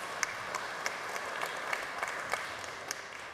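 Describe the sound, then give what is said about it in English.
Audience clapping, a steady wash of many hands with a few sharper individual claps popping out at irregular moments, moderately loud and continuous, no voices over it. “Yeah, you're clapping right now, but you should see all the work I have ahead.”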